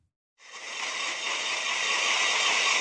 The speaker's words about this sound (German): Langsam frisst sich auf 4500 Metern Höhe ein Bohrer ins Eis. Ein Video dokumentiert die Arbeiten am Gletscher Colony Fetti. Hier an der Grenze zwischen Italien und der Schweiz holen Wissenschaftlerinnen und Wissenschaftler einen Eisbohrkern